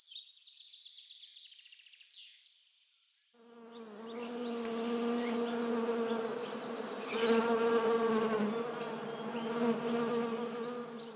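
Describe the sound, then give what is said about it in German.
A few seconds of thin, high chirping give way to a loud, steady bee buzz, a continuous low droning hum with a rich nasal tone that swells slightly and holds to the end. “Ich bin eine Biene. Summ, summ.”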